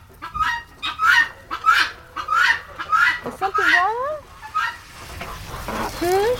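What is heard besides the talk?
chickens clucking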